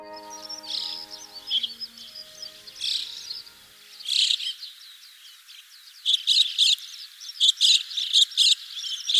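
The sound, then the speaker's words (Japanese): Several white-cheeked starlings call while flying past over rice paddies along the Edo River in Matsudo, Chiba Prefecture, Japan, giving a burst of harsh, chattering notes, then a louder flurry of rapid squeaky calls near the end, with no one talking. “鳴きながら飛んできたのはムクドリです。”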